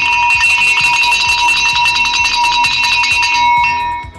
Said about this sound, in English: Before we start the show, let the bell give the ring.